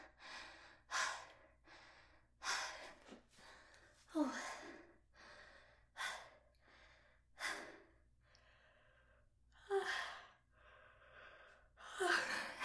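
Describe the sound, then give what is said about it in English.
A series of soft yawns, about eight or nine drawn-out breathy inhales and sighing exhales following one another at irregular intervals, with no talking. “Take these yawns as an opportunity.”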